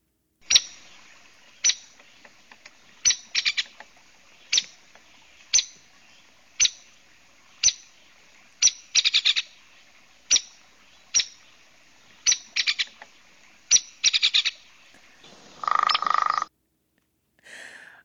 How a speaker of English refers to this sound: Okay, well, let's take a listen to what each of these birds sound like. We can start with the hairy woodpecker.